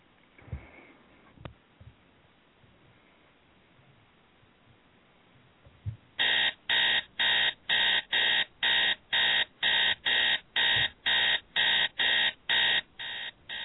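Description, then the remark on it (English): After about six seconds of near silence, a captain's alarm clock starts ringing loudly, sounding a rapid, steady series of shrill electronic beeps that keep repeating until the end. “The captain reaches for the alarm clock and at nearly the same time reaches for the phone on the nightstand.”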